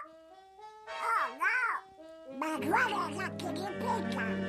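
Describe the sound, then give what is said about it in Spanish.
The raspy, squawking cartoon voice of Donald Duck, from his first film appearance in an animated film, gabbles in quick, wavering bursts, first in two short swoops and then a longer, busier run of nasal, warbling syllables with harmonics stacked high. “Bueno, estamos hablando del Pato Donald, ¿no? Sí, claro, es muy fácil”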